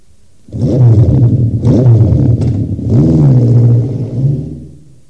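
A motorcycle engine revs loudly, its pitch climbing and dipping through several throttle bursts before the roar trails off as it speeds away carrying its rider and a passenger on the back.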